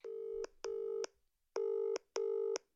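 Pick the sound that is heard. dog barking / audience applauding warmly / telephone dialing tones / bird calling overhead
telephone dialing tones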